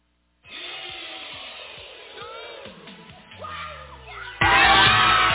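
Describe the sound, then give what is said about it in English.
A crowd of excited children squealing and shouting over one another as they open Operation Christmas Child shoebox gifts, in a lively, chaotic din that swells into a louder burst of cheering near the end. “There's squeals and screams, and they are so excited to see what's inside their box.”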